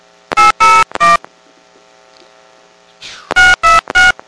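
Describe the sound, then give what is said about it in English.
Two quick bursts of three touch-tone keypad beeps, separated by a short pause with a faint rustle, each tone loud and crisp, as an area code and phone number are dialed for a prepaid calling card call. “Please enter the area code and phone number you wish to call.”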